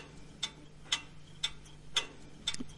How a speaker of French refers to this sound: Ça m'inspire, ça me rappelle un petit peu le bruit que faisait la vieille pendule de mon grand-père, qui était une pendule à balancier.